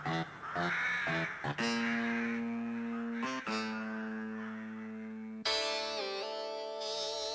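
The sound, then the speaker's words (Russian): Crows circling around a balcony caw loudly and harshly, with overlapping, drawn-out calls that run almost without pause from start to finish and shift in pitch toward the end. No one speaks. “Птицы кружили около балкона и противно каркали.”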